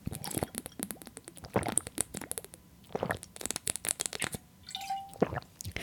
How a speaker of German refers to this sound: Also ich trinke noch mal kurz die Flasche hier aus. Moment.